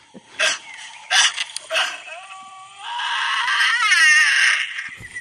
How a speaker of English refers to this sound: Here are two Tasmanian devils having a discussion about food, sex, or territory. Hmm. Yes, I believe you should stay on your side of the thicket. You hear the breathing, guys?